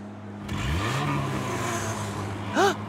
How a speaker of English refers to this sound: Did you hear that? It's a crowd cheering and monster trucks roaring! We made it to the monster truck rally!